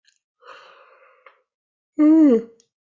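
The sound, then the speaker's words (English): A single yawn: a soft, drawn-out inhale followed by a brief pause, then a loud voiced exhale that slides downward in pitch like a groan. No talking. “And the energy release, I was already firing up with my yawns.”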